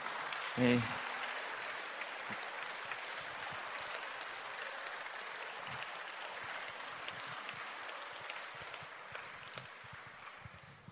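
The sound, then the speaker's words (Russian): Loud, sustained applause from a crowd welcoming a team from Poland as they come out, a dense crackle of many hands clapping that holds steady for about ten seconds, with a brief shout at the start. “Да, под бурные аплодисменты.”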